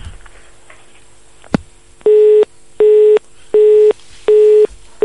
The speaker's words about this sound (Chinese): 好，刚才这个电话跳线了，我们再来听听下面一位。